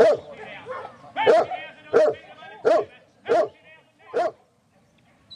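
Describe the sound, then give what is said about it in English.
A dog barks about six times in a steady, evenly spaced rhythm, each bark loud, then stops, leaving near silence at the end. “Guy's got a dog”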